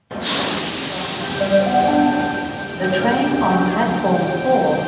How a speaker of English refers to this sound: It's peak hour at one of Sydney's busiest train stations. The platform is packed and everyone just wants to get home.